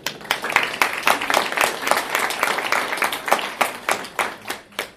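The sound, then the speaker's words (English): An audience applauds the evening's speakers with a steady burst of clapping from many hands, crisp and fairly loud, with individual claps still audible. It keeps going for several seconds and thins out slightly at the end. “So I'd like to ask you to help me welcome a big round of applause for all of our speakers tonight that are going to help us out.”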